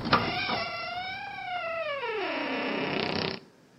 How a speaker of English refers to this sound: On the count of three, I'm going to open the door. One, two... Free.